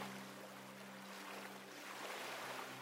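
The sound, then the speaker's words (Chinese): Soft, steady wash of ocean surf with a gentle swell rising and falling, quiet and continuous, with a faint low hum underneath and no voices. “感受海浪轻柔的摆荡，拉着你去向更远、更深的地方。”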